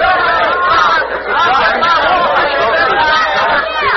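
A lively crowd chatters excitedly, a dense, continuous babble of many overlapping voices at steady, fairly loud volume throughout, with no single speaker standing out. The crowd is urging Peter Cooper to accept a challenge to race his Tom Thumb locomotive against a mare into Baltimore.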